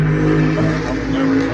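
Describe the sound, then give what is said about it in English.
A NASCAR race car engine roars steadily on a track for under two seconds, a loud, sustained buzzing drone with a held pitch that dips slightly partway through, with no voices over it. “There's one car on the track.”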